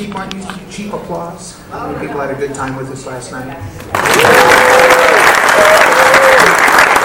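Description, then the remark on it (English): A voice talks for a few seconds, then loud audience applause erupts abruptly and keeps going steadily to the end, a dense wash of many hands clapping at once. “How many people hate cheap applause?”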